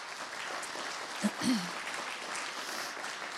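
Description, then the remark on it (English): A church audience at the East Aurora campus claps steadily for the worship teams, a dense wash of many hands applauding without letup, with a brief low cheer or whoop rising out of the noise partway through. “Can we just take a minute to give our worship teams a round of applause?”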